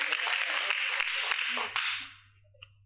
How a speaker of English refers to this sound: Come on, clap your hands for Jesus Christ. Hallelujah.